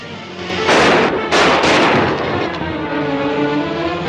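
Chaotic gunfire in a shootout by a train: loud bursts crack and boom in quick, irregular succession, several overlapping blasts that echo and rumble between shots, with no voices heard.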